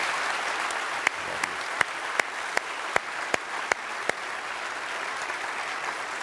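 An audience applauds in a steady wash of clapping, with a few sharper claps standing out at irregular intervals over the continuous crowd sound; no one speaks.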